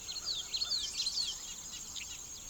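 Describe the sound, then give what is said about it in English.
A dawn chorus of birdsong in a meadow: several birds trill and chirp in quick, overlapping bursts over a steady high insect-like hum. No one speaks. “The next thing I know, dawn has arrived, and there's way more birdsong than I had anticipated.”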